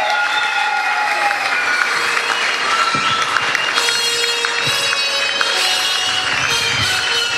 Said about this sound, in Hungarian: Gratulálunk és nagy tapsot kérünk nekik, ügyesek voltatok lányok!